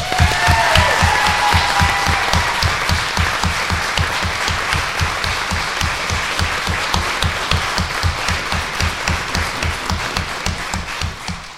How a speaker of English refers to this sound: I would love to believe that all these people are here for me, but I really think they're here for you, and so I think it deserves another round of applause.